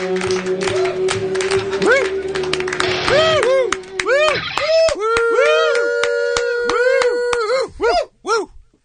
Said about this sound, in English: Crowd's going crazy.